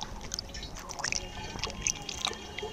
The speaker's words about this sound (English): On this day, they draw several gallons from a stream. The banks are littered with piles of electrical cable.